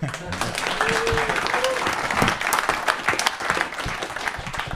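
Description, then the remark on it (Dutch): Steady applause from an audience, a dense wash of many hands clapping at an even loudness for several seconds, with a few brief whistles or voices poking through. “Een applaus.”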